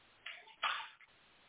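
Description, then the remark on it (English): Two short bursts of running tap water, a brief splashy gush followed by a slightly longer, stronger rush that cuts off abruptly, with no voices. “Turn off the water and then buy something that takes off the calcification.”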